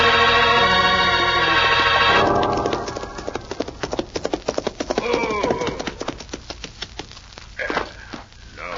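horse hooves galloping

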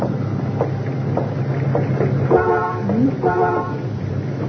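car horn honking

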